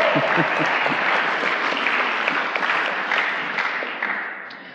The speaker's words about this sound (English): But let's give the sound guys a clap, because the only time they ever get noticed is when something's not working.